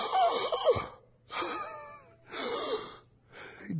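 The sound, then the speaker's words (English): A voice imitates the labored, rasping breathing of the dying Jesus, four drawn-out wheezing gasps with short pauses between them, fairly loud. “Here he was breathing.”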